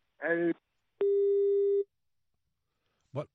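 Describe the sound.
A single steady electronic telephone busy tone after a dropped call, clear, lasting under a second, falls between brief bursts of a voice before and after it, with silence in between.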